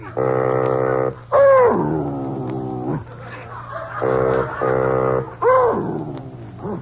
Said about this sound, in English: Well, Baldy, you're singing! Well, Baldy, you can sing. You're a singing dog.